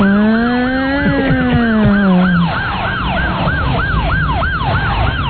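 A loud modern police siren wails continuously, shifting from a long rising-falling tone into a rapid repeating yelp, with traffic rumble underneath and no talking.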